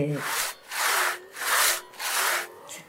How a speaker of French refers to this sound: Mon grand-père était menuisier, charpentier, charron. Et il y avait cette odeur de sciure, la scie à ruban qui chantait le matin.